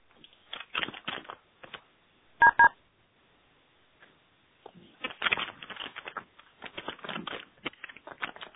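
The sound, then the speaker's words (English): During a conference call, bursts of clicky keystrokes come through a narrow phone line, in an uneven rapid patter with pauses, interrupted once by two short dial-tone beeps. “Someone typing.”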